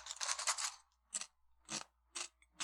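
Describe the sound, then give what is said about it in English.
A loud crunchy bite into a potato chip, followed by several sharp, rhythmic chewing crunches spaced about half a second apart, with no talking. “It crunches like a chip in a bag. Let's see if it tastes like a chip.”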